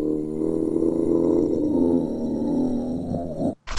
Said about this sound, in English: The zombie sounded like he had gas. Sounded like a dog.